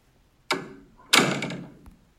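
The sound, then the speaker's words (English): A door thuds shut in two quick, heavy impacts, each ringing out briefly, followed by a small, sharp click as the door is locked. No one speaks. “And you're locking the door?”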